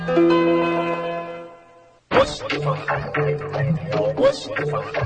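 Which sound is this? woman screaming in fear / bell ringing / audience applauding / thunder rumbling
bell ringing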